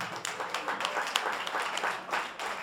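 A crowd applauds steadily, a dense wash of many hands clapping with sharp individual claps standing out, holding at an even, moderately loud level throughout.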